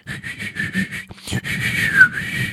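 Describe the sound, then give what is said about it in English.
Someone whistles an imitation of a bird's tweet: a quick run of short, chirpy notes, a brief pause, then longer warbling whistles that slide in pitch, fairly loud. “I can't even whistle. That's a tweet.”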